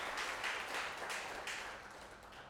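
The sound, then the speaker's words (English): A crowd applauds for Trina with a dense, steady patter of many hands clapping, fairly soft overall and tapering slightly toward the end, with no voices over it. “round of applause for Trina, please.”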